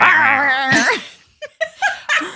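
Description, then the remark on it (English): A person growls and whines, imitating a bulldog tugging at a pant leg: a drawn-out strained snarl followed by four short sharp yips in quick succession, fairly loud. “I mean, a bulldog grabbed your pant leg and it's just like.”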